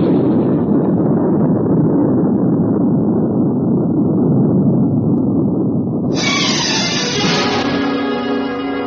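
A loud, steady roar of rocket engines at liftoff, thick and rumbling throughout, turning brighter and harsher with rising tonal whine for the last few seconds. No voices.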